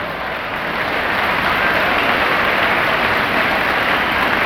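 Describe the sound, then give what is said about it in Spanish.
A crowd breaks into sustained applause for the students and their parents, a dense, steady wash of many hands clapping at once that stays loud and even throughout, with no voices rising above it. “De verdad, ese aplauso es para ustedes y para sus papás.”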